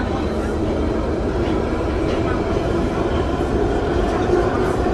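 Steady, loud rumble of a London Underground train carriage in motion, a dense low roar with rattling that stays constant throughout, without pauses.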